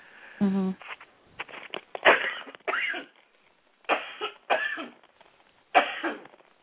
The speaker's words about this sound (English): Oh, I'm sorry. Excuse me for coughing. I hope I didn't cough in your ear.